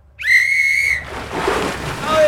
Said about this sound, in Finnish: Tässä on pilli. Uimaan saa mennä vasta, kun pilli soi. Hei, miltä se kuulostaa?